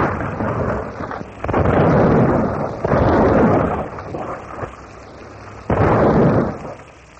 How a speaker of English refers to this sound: Hour upon hour, the rattling roar of cannon shatters the peaceful morning, turning the Esmeralda into a mass of crumpled rails, broken stanchions, and splintered wood.